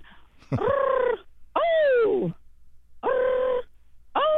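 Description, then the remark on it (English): A person's voice imitates a loud, unfamiliar bird call heard in the middle of the afternoon, as loud as a hawk: four drawn-out, strongly tonal cries with pauses between them, the second swooping downward in pitch, delivered forcefully with no other talk. “in the middle of the afternoon, I heard a bird I had never heard before, and it was very loud and as if, you know, like a hawk sounds in terms of the volume, but this bird went, ready?”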